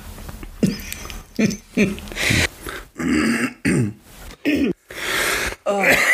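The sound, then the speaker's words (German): A run of throat clearing and harsh coughs, several loud bursts in quick succession separated by brief silent gaps, with some muffled vocal sounds in between. “Du musst hier schon wieder rumhusten.”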